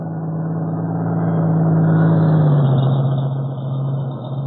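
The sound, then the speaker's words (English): A truck engine rumbles along a road as the truck comes from the direction of Maywood, a steady low drone that swells louder, then dips slightly in pitch and eases off a little as it goes by. No one speaks. “A truck coming down, Mr. Britt. Yes, I hear it.”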